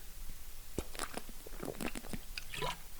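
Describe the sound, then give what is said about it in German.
Wet mouth sounds of someone taking a sip of water, with a few soft gulps and lip smacks over about three seconds, no talking. “Ich muss auch kurz einen Schluck Wasser trinken.”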